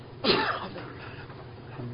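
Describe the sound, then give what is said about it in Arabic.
A single sharp sneeze bursts out early, a brief explosive rush of breath that quickly fades into a low, steady background hum with no talking. “رحمك الله”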